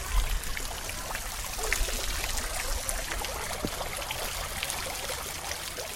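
Water trickles and burbles steadily for the whole stretch, a continuous wash of small splashes and drips with no voices over it.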